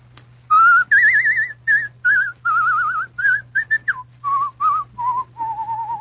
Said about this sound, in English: The next one's very easy. I don't think I'll even give you the line. I'll whistle it for you instead.